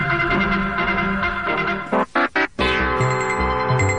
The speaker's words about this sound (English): 1960s, the headline sound. CBS Network Alert.